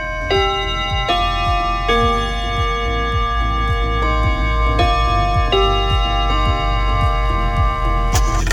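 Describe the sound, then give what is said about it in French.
A Radio Bonheur time chime marking precisely 8 p.m. (20h): sustained bell-like tones struck in a slow sequence of notes over a steady, rapid clock ticking that runs throughout, with no voices. “Radio Bonheur au carillon et sur les montres qui marchent, il est précisément 20h.”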